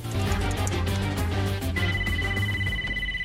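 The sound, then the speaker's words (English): A telephone rings on the line with a bright, steady tone after a coin is reinserted into a payphone and a number is dialed; it enters partway through, layered over a dense, booming musical backdrop that fills the whole clip. “then immediately retrieves a coin from the phone, reinserts it, and dials a number.”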